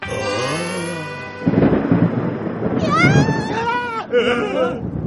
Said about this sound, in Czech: To je nadělení. Já se bouřky bojím.